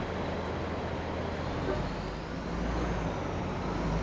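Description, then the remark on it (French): A steady, full-bodied rumble of a bus bound for Phoenix, boarded by about twenty migrants, and road traffic, with a low engine drone and broad road noise holding at an even level throughout, no voices. “la vingtaine de migrants présents ce jour grimpent dans le bus direction Phoenix.”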